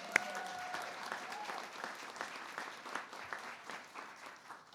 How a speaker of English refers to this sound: Give yourselves and each other a big round of applause, everyone.